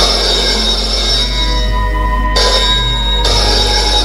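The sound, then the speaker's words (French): A telephone in an office rings one evening in bright, insistent bursts with short gaps between them, loud, with no voices present. “Un soir, que François est dans sa chambre à se reposer avant l'arrivée de Paul, allongé sur son lit, le téléphone sonne.”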